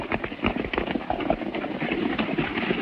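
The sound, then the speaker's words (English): Rapid, rhythmic hoofbeats of a galloping horse pound steadily throughout, fairly loud, with a dense, rumbling background and no clear voices; a rider gallops after a group of other riders. “He rises, jumps onto the fallen rider's horse, and gallops after the others.”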